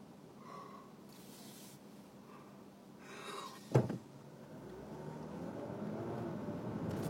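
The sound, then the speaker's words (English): Street traffic rumbles steadily, with an engine rising in pitch as a vehicle accelerates past, and a short sharp thump partway through. No one speaks. “You know, if there are fewer cars here, this would actually be a pretty good way to go.”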